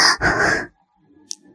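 Two heavy panting breaths in quick succession from a woman exhausted after sex, loud and airy, then near silence with a faint, brief tick.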